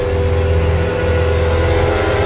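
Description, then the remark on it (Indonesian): A car swerves to the right and brakes hard, nearly hitting a Chinese restaurant, its engine a loud, steady roar for a couple of seconds with no voices. “Aku spontan membanting setir ke kanan dan mengerem, dan hampir menabrak sebuah restoran Cina.”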